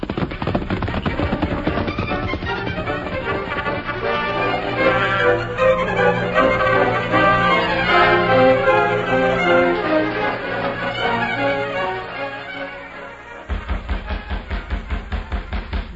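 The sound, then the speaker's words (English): Full orchestral music plays, then cuts off and a rapid series of sharp, even knocks on a door takes over, loud and steady to the end. “Someone at the door.”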